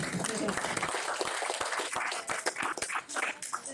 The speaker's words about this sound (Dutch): Applaus voor jezelf.